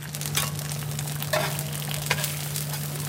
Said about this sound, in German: Hier an einer Bude am Straßenrand im Zentrum Shanghais brutzeln chinesische Eierpfannkuchen auf einer Heizplatte. Sie sind ein beliebter Snack für zwischendurch auf die Hand.